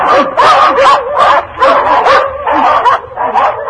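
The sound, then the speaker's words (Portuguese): A pack of hunting dogs, just released onto the tracks at the start of a hunt, barks and bays in a steady, rapid series of loud calls, about eight overlapping yelps in under four seconds, with no pause between them. “O Simão Santos, que na gira dos caçadores fora escolhido para soltador, foi logo procurando os rastros e, ao encontrá-los, soltou a matilha.”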